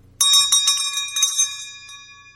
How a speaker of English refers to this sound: She needed to get their attention. She needed to save her voice so that she could teach the children. And so she used a bell like this one.